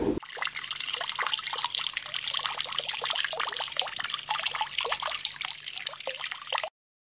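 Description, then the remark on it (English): Water drawn from a well pours and trickles steadily for several seconds as it is given to sheep, a continuous splashing stream with bright gurgles, then stops abruptly. “Then he drew water and gave it to Rachel's sheep.”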